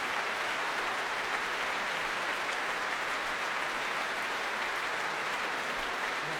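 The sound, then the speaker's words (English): Steady, dense applause from a large crowd in the Albert Hall as a performer bows on stage, a continuous wash of clapping hands in the big reverberant hall that holds at an even level throughout with no voices. “A wonderful pair of giant German mitts applauding from the center of the promenade.”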